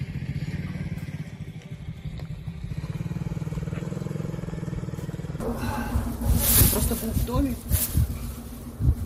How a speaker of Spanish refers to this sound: ¿Lo han visto? Ha pasado la moto pequeña, le han preguntado si el bulto era su hijo muerto.